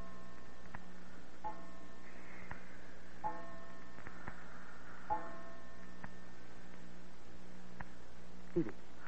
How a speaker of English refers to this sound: We'd gone to bed about midnight, and when I awoke, I heard the clock on the stairway strike the hour.